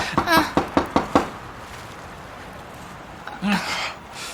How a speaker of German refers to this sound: Es rührt sich nichts. Und die Tür ist verschlossen. Ich klopf noch mal. Vielleicht war ich noch nicht laut genug.